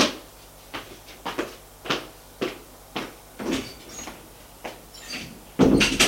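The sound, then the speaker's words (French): A door being worked as a woman gets up and leaves the room: a series of short, sharp wooden clicks and knocks at an uneven pace, ending in a louder rattling burst as it shuts. No one speaks. “Elle se lève et sort de la pièce.”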